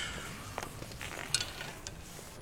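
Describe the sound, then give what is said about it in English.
Dice rolled in a game of craps clatter in a few brief, light clicks and taps, landing on 2 and 3, scattered over about two seconds above a steady, faint background hiss, with one sharper knock standing out in the middle. “Roll the dice before I decompose.”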